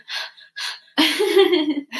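Two quick, noisy sniffs through a stuffy nose, followed by a longer, rough snorting breath with a hoarse, voiced edge, loud on the mic with no talking.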